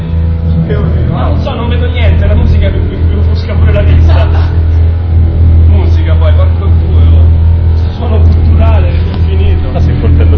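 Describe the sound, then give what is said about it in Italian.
A car engine rumbles and revs loudly and continuously, its sound heavily distorted and harsh, with a deep steady drone underneath and muffled, indistinct voices mixed into the noise. “La porca della macchina. È pazzesco. La performance qua sotto.”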